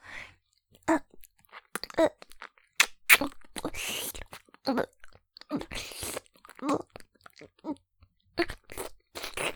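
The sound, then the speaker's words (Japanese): A crunchy baby snack being chewed: irregular bursts of crisp, crackling bites that come in quick clusters, interspersed with brief murmured vocal sounds between the chews. “おやつ、おいしい。果物みたいでおいしいの。”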